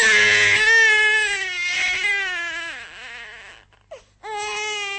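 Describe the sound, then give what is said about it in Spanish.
A newborn baby wails inconsolably and loudly, in long strained cries that waver and break, with a brief gasping pause before the crying starts again. “En la mansión se oye el desgarrador llanto del niño, al que la mujer de blanco en vano trata de adormecer.”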